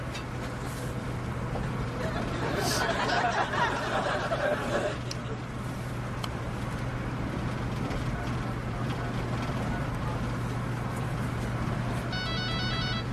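A mobile phone ringtone chirps in a quick, bright pattern near the end, heard over a steady low hum and faint background murmur.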